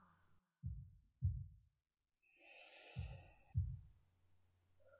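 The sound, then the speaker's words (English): A slow heartbeat gives two muffled lub-dub pairs of low, soft thuds a couple of seconds apart. A gentle breathy exhale drifts in between the beats. “Heartbeat soft.”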